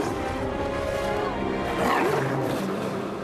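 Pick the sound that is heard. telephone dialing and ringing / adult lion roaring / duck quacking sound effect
adult lion roaring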